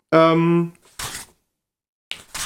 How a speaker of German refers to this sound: ich versuche jetzt, vielleicht hört ihr das, ich suche heimlich in einem Buch. Blätter einmal schnell und laut, weil das Blättern ist sowieso drauf. Okay, ich blätter einmal schnell und laut.